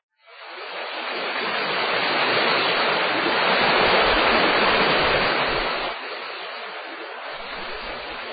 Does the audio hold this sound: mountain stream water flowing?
yes